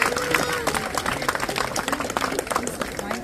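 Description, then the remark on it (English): A crowd applauds the sponsors supporting the United States Military, dense overlapping claps forming a loud, continuous wash of sound with scattered voices and cheers mixed in throughout. “So a special round of applause for those people.”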